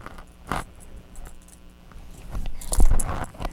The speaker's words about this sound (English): Those keys were hiding, weren't they? Are you pounding? Shake those keys.